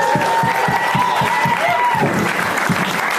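Steady, even hand clapping at a brisk rhythm as a man claps for himself, about a dozen sharp claps over three seconds, fairly loud, with a faint sustained tone and murmur underneath.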